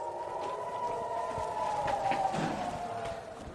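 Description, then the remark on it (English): An air raid siren sounds during an ongoing war, holding a sustained, wavering mid-pitched wail that drifts slightly in pitch, heard fairly faintly over a wash of low background noise with no speech. “And I'm afraid another war is still going on, and there's an air raid siren, and we do have to take it seriously.”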